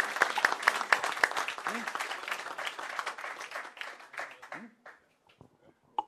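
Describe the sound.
An audience applauds a speaker at the end of a question session, with dense, steady clapping that carries on for several seconds, then tapers off and fades into near silence, leaving a few stray claps and brief voice sounds.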